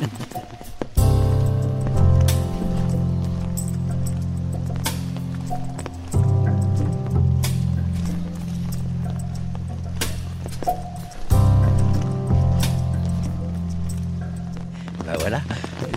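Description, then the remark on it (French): Rain pattering on an umbrella on a trail in the Vercors park, irregular sharp taps of drops scattered throughout, over a steady low droning hum that pauses briefly twice. “Le bruit de la pluie sur le pépin”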